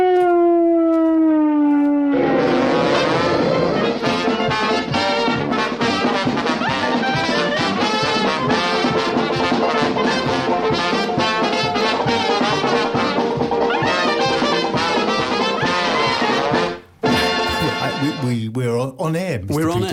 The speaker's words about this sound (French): Last time there was no theme tune. I know, they didn't play our theme tune. And we've got to have a theme tune. Right, it's there, it's our theme tune.